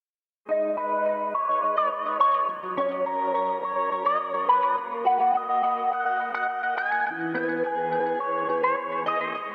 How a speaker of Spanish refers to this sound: Carlos, todo tuyo, pincha la canción y a disfrutarlo